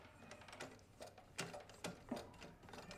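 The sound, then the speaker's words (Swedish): An old Huskvarna sewing machine being cranked slowly by hand, giving a few irregular mechanical clicks and clacks as the needle moves up and down, quiet, with no talking. “En gammal symaskin står här också. Huskvarna. Ska vrida lite här för att se om det händer någonting.”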